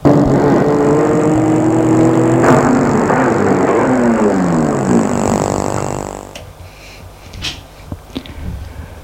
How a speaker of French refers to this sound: Cinq minutes plus tard, la voiture va s'arrêter dans la cour de la ferme des Perriers.